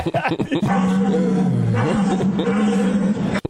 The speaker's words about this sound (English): Like the deer around here don't sound like that. No, they don't. Sounds like a German deer. Man, a German deer. Yeah. Sounds of steroids and everything.